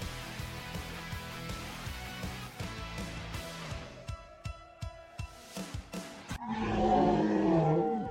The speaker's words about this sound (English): What the hell was that at the end? It was supposed to be a dinosaur growl. It sounded like a sea lion.